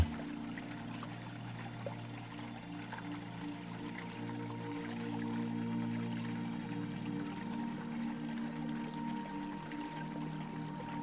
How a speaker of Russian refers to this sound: Легкое трение воды и песка создает гармоничную мелодию природы.